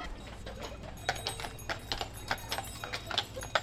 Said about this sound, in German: Ja, das ist eine Pferdepostkutsche.